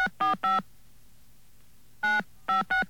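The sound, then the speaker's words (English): Touch-tone telephone dialing a number to make a call: six short, steady beeps in two quick groups of three, separated by a pause, each a bright dual-pitched tone with a faint hum underneath and no voices. “Those of you with touch-tone decoders inside your head can figure out what the number is.”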